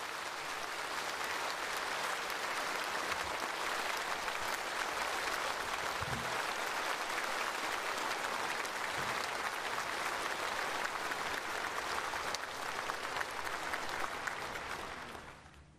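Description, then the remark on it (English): Sustained applause from a large audience for the Chinese Premier, who has just delivered the country's annual work report: a dense, steady wash of clapping that holds evenly for about fifteen seconds before fading away at the end. “broad applause for the Chinese Premier Li Qiang, who just delivered the country's annual work report”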